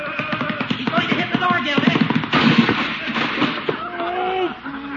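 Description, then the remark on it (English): In a scene from The Great Gildersleeve radio show, a goat rams a wooden door, splitting it right down the middle with sharp, cracking bangs and a loud splintering crash midway, while excited voices shout over the commotion. “Split the door right down the middle. That goat's gotta go.”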